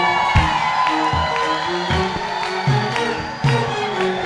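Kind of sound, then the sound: crowd, audience shouting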